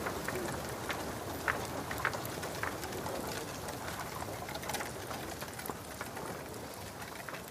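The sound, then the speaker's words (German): Ravens on rooftops call and flutter restlessly in short, scattered bursts over a steady, dense hiss like rain, with no voices present, moderately loud throughout. “Die Raben auf den Dächern werden ungeduldig.”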